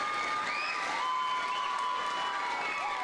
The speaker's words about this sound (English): The whole school was waiting inside to applaud for her.